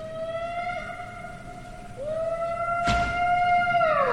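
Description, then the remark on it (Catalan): A long, bellowing Tyrannosaurus rex movie roar, loud, with drawn-out tonal howls that swell, briefly dip, then rise again, plus a sharp rasping burst near the end. No talking. “No, això és Jurassic Park, hijo. Sí. Alguns dels dinosaures... El T-Rex. Això és un T-Rex.”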